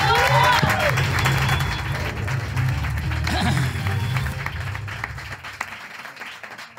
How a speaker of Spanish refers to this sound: Un aplauso para Eva Camaño.